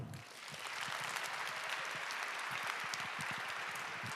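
An audience claps steadily, a dense wash of many hands that swells in the first second and then holds at a full, even level throughout, with no talking over it.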